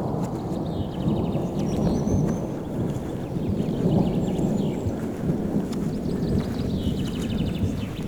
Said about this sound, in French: Pelouse rase, clairière, orage. La générosité des Pyrénées fait que quasiment au bout de 10 minutes, un quart d'heure de marche, vous arrivez sur cette clairière parsemée de fleurs jaunes, de gentianes